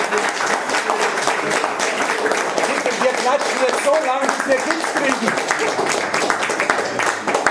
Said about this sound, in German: Also, ich bitte um einen ganz großen Applaus. Extra lang, wenn wir Kick haben wollen.